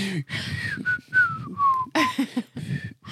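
A person whistles up close, a short run of clear notes that slide and dip in pitch, broken by brief breathy, rustling bursts between phrases.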